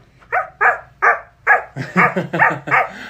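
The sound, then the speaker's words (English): A voice imitates a dog barking: a quick run of about eight sharp, yappy woofs, spaced evenly at first, then bunching faster toward the end, fairly loud with no other talk. “What about a dog?”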